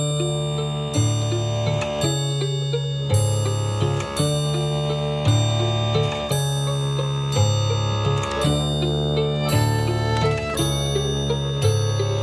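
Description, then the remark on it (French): A large clock with seven hands ticks steadily and loudly, about once per second, layered over sustained, ringing tonal hum that persists throughout. No one speaks. “La grande horloge aux sept aiguilles sonne l'heure des sourires figés.”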